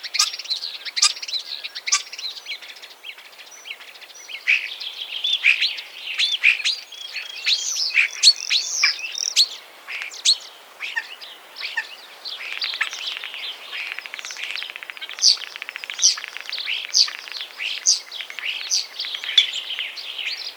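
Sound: common starling song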